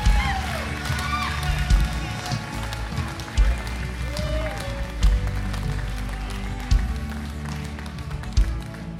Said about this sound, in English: Can you guys just clap your hands this morning like you're going crazy for a moment? Yay! Yes!